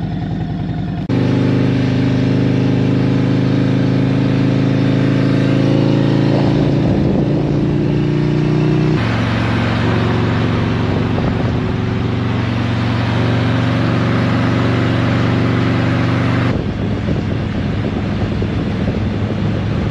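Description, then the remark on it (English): A motorcycle engine drones loudly and steadily at speed on a freeway as the rider commutes to work, its pitch holding then dropping briefly as gears shift, with wind rushing over the rider throughout. The bike has new handlebars and its left-side exhaust removed and blocked off. No one speaks. “First time riding with the new bars. I'm gonna head out to work right now.”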